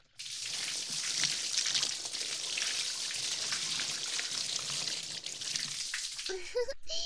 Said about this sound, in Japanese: もう一回流しますよ。 毛穴に泡が残ってしまわないよう、もう一回しっかり流しますね。